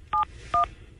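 telephone touch-tone dialing

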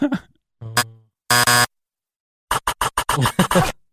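game show wrong-answer buzzer

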